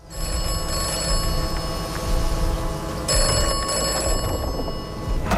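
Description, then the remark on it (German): A telephone in an English phone booth rings continuously, a loud metallic trill with steady sustained tones, filling the whole stretch without any voices. “Die immer anruft, wenn du an so einer berühmten englischen Telefonzelle vorbeigehst.”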